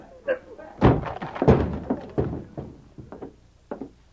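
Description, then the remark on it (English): A locked office door is forced open by breaking its lock: a run of heavy thuds and cracking bangs at an uneven pace, the loudest blows early on, followed by a few lighter knocks and rattles. “Stand over to one side, Anne. I'm going to break this lock.”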